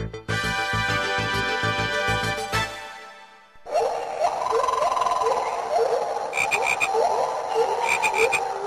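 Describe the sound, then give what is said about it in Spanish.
A green toad croaks in a steady run of short, repeated calls, fairly loud, following a few seconds of buzzy, tonal music-like sound with no talking. “Sapo verde.”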